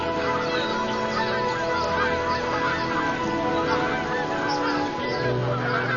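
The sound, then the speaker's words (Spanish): A large flock of geese and other waterfowl honking continuously as thousands land in autumn, many overlapping calls blending into a dense, steady chorus with no pauses. “Los gansos y otras anátidas aterrizan por miles en busca de abrigo, seguridad y comida.”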